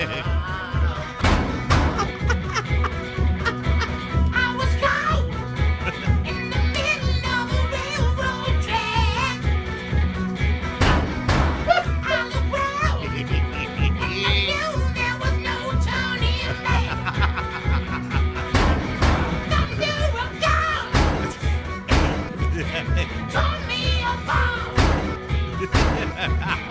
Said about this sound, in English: Now, this is a risky performance because when you hit the washing machine, sometimes it balances it. He's going to lose his baseline.